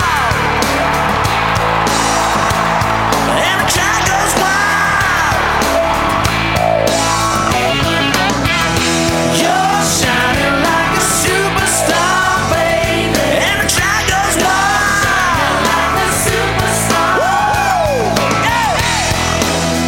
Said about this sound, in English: The lights go down when he hits the stage, and the crowd goes wild.